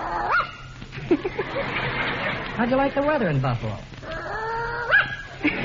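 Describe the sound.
A man asks the dog Slewfoot how he likes his train trip, and the dog answers with a run of yowling yips and short barks that slide up and down in pitch, almost like it's trying to talk.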